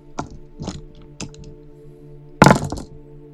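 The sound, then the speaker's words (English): Seven dice rattle and clatter in a game roll in Darksome Mirror for creating a healing potion, yielding 5 successes: a few short, light knocks, then a louder burst of tumbling clicks near the end, over a faint steady hum with no talking. “Erlyn has rolled 5 successes out of 7 dice.”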